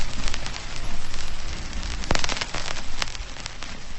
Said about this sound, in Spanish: Es el sonido de la aguja desplazándose por los surcos del disco, pues al compás que le marcaba el plato o tocadiscos.